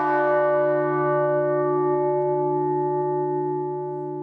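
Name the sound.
church bell struck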